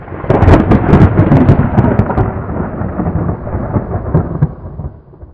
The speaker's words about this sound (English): And then the thunder came again.